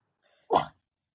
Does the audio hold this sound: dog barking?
yes